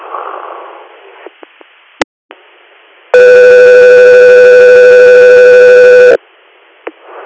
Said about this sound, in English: Stand by for tones.